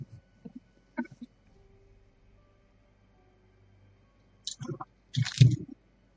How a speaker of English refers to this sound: That crunch. That crunch. Probably my jaw. The jaw pops.